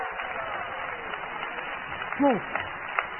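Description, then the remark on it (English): A crowd claps their hands unto Jesus in a dense, continuous patter that fills the whole stretch, with a brief rising vocal cry breaking through partway along. “Clap your hands unto Jesus today.”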